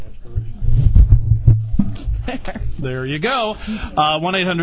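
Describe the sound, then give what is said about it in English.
Muffled rustling and low thumps of a windscreen being pulled off a directional microphone and fitted back on during a quick mic adjustment, lasting a couple of seconds before a voice starts talking. “There is a directional on the microphone, and you have to take the mic condom wind.”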